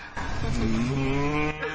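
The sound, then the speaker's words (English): A long, low moo imitating the bellowing of cows coming toward Vrindavan, held steady for over a second and rising slightly in pitch. It is fairly loud and may be a human voice imitating the cow. “Then they hear the bellowing of the cows. Moo.”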